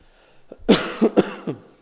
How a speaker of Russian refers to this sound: Я иногда буду кашлять, братья, вы к этому снисходите. У меня же какая-то немощь, уже полгода кашляю.